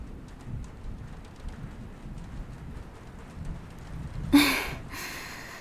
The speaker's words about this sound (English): If the rain doesn't stop anytime soon, I should just probably stay here, yeah, for the night.